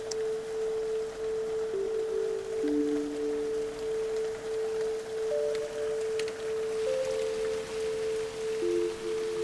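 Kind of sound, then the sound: nature, rain falling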